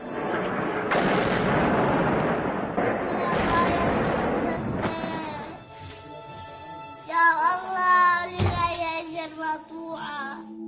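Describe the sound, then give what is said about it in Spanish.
Heavy, roaring blasts of bombs exploding in a video fill the first half, a dense rumbling burst with sharp cracks. Then anguished wailing voices of the victims take over, with another sudden boom midway through. “El vídeo es desolador, y es que además del ruido de las bombas, se recoge la voz de las víctimas.”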